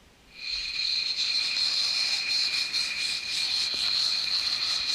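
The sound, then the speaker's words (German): A dense, high-pitched crackling texture from a sound installation fades in after a brief quiet moment and continues steadily at even loudness, with a thin shimmering, insect-like ring running through it. No one speaks. “Das ist jetzt so ein Knistern.”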